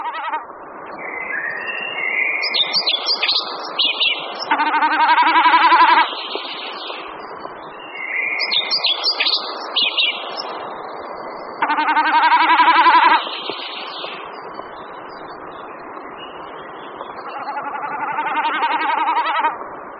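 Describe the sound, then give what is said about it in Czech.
Snipe drumming, a quavering, goat-like bleating hum made by air vibrating over the tail feathers of a diving male snipe in its courtship flight, swells and fades in three long bursts, alternating with loud, repeated high whistled phrases of collared flycatcher song. No voices. “Kromě mečení bekasiny uslyšíme v popředí naší nahrávky poměrně silně i zpěv lejska černohlavého.”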